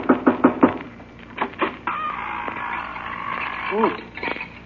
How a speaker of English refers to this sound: Well, if we're going in to get the Wicked Witch, I better knock on the door.